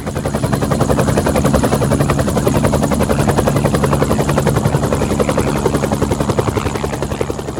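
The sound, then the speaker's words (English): A helicopter's rotor beats in a fast, steady chop, loud, with a constant engine drone underneath throughout. “Literally, it felt like for years, and it was too, every day, be up in the chopper.”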